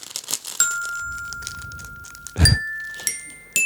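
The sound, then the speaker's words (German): A few metallic glockenspiel strikes ring out, each a bright, clear tone that sustains and decays, spaced irregularly with one long ringing note early on. A brief rustling bump sits between strikes, no talking. “Es kommt immer was dazwischen, dass ich irgendwie nicht kann an diesem Glockenspiel.”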